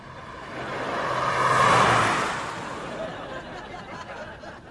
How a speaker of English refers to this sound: Car.